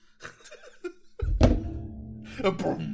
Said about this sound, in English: It just sounds like a gong, dude. This damn microphone stand, dude.